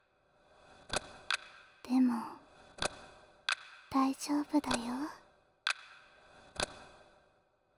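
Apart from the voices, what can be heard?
clock ticking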